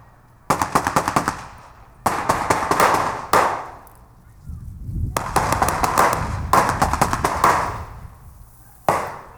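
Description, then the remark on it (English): Bursts of rapid automatic gunfire using dummy rounds, not live fire, crack out repeatedly and loudly during a military training exercise as teams take a town in an urban setting, with short pauses between volleys and a low rumble underneath. “But it's an intense operation nonetheless as teams take the town and gunfire is exchanged.”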